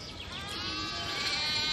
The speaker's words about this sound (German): Weil ich bewege mich gerade auf Schafe zu. Und ich hoffe, das hört ihr auch. Hört man das schon? Oh, Schafe sind was Tolles. Ja, ich bin mitten in Köln und ja, hier gibt es Schafe.